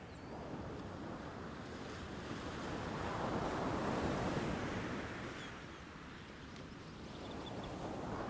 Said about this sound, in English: Soon you find yourself wading in among the gentle waves, as each swell helps you feel more welcome and at home in the water, until you find a comfortable place to float peacefully on your back.